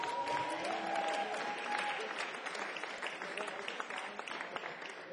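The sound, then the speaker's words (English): A crowd applauds producer Tony Visconti steadily, a dense wash of clapping that stays loud for several seconds before thinning slightly toward the end, with a brief whistle-like tone near the start. “Please, big round applause for Tony.”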